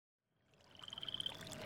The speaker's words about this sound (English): What are these? They're frogs.